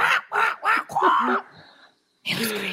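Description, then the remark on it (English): Katrina A. Johnson of All That does a loud bird impression: a rapid run of nasal, quack-like squawks, then a drawn-out call, a brief pause, and one more honking cry. “Her doing bird impressions.”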